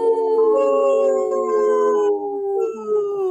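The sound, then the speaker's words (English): Several people, including members of a park board, howl together like wolves, long overlapping wails that slide slowly downward in pitch, loud, sustained throughout with no talking. “Hey, the park board did have no problem joining in on the howl.”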